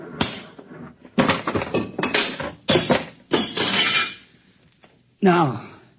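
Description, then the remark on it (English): A machine that controls a buzzer is smashed apart with a series of heavy crashing blows, clattering and breaking in an uneven rhythm. A brief voice follows after a short pause. “This is the machine that controls the buzzer. Just a simple machine like that? Yes, a simple machine. Stand back.”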